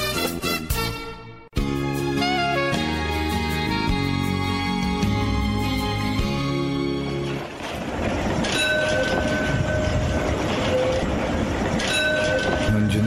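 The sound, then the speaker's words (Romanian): A tram runs along rails, a loud steady rumble with metallic whining and squealing tones riding over it, preceded by a dense stretch of sustained tonal sounds. “Ascult Radio Vocea Evangheliei pe tramvai. Eu sunt conducător tramvai.”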